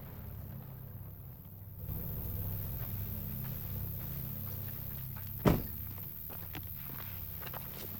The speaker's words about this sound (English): The truck starts moving again and heads towards the shack along a dirt track.